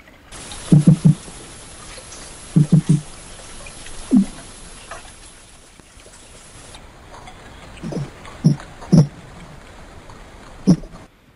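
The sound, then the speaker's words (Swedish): Wels catfish calls recorded underwater: short, low grunting pulses, some in quick pairs, repeating irregularly about eight times over a steady watery hiss, with no voices. “Och jag tänkte vi kan lyssna på hur malen låter.”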